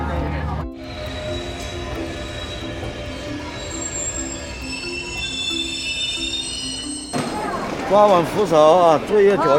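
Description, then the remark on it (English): A train rumbles steadily along the rails for several seconds, its wheels letting out thin, high squeals over the low roar, before a voice begins speaking near the end. “The train conductor, Liu Wei, has long regarded the train as his family.”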